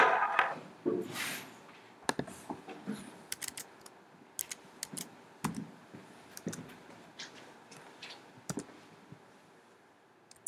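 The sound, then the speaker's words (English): Irregular bursts of typing on a computer keyboard, sharp clicky keystrokes coming in quick clusters with short pauses between, moderately quiet, with no one talking. “2014, wrong keyboard.”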